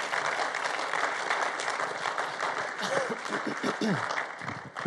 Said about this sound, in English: Welcome to Seaport, whether you're here in person or you're joining us online. Welcome. We say welcome around here by giving a round of applause. So can we do that, church?